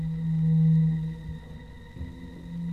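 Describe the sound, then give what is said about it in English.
An eerie, unearthly howling from Martian machines, heard in London as a remote wailing: a steady low droning wail with a rich, buzzing overtone, swelling loud, dipping briefly midway, then rising again. No one speaks. “I was already in the city when I heard it. A weird howling sound.”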